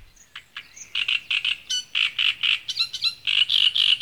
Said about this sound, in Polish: I tak, w takich miejscach może mieszkać trzciniak. To już z kolei do ptaków przechodzimy. To taki skrzypek nadwodny. Posłuchajmy zresztą sami.